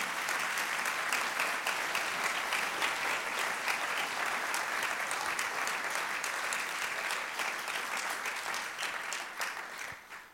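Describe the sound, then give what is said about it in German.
An audience claps steadily for about ten seconds, a dense, even patter of many hands that holds its level before tapering off at the end. “Dürft ihr da jetzt auch klatschen, aber.”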